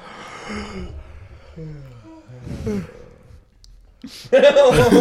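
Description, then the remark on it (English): Several people yawn on cue one after another, drawn-out voiced yawns with sighing, falling tones and breathy exhales, ending in a louder yawn that rises and trails off. “Everybody yawn. See what happens.”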